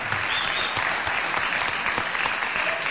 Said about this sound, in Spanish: Aún no ha callado del todo los vítores